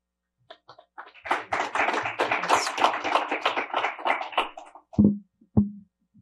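An audience applauds a speaker at the end of her talk, a few scattered claps swelling into dense, steady clapping for about four seconds before cutting off, followed by two dull, low thumps.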